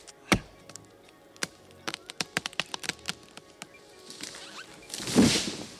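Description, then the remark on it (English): An axe chops wood with a series of sharp, irregular thwacks, a few loud and many lighter, followed by a swelling rush of crackling noise near the end, as someone chops at a tree. No voices. “I can see someone chopping wood.”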